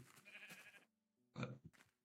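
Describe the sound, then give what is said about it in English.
A Minecraft sheep bleats twice as the player tries to kill it, a wavering, nasal baa followed by a short pause and a second louder, brighter bleat, clear with no talking. “I cannot even kill a sheep.”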